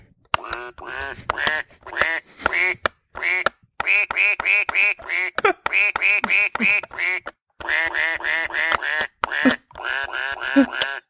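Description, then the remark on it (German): A toy piano plays the children's song 'Alle meine Entchen' with every note a short, nasal duck quack, the quacks coming in quick rhythmic runs with brief pauses between phrases, fairly loud. “Spiel alle meine Entchen auf Ente.”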